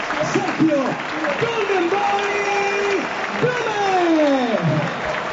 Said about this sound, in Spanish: Y el público, esta es la ovación que le brinda.